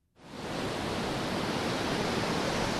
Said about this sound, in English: If there's a symbol of the ocean's raw power, it's the crashing wave.